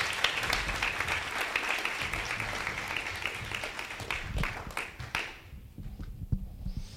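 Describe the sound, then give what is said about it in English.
Audience applause of dense, steady clapping for about five seconds, then thins out to a few scattered claps and fades near the end. “You can give her a hand clap.”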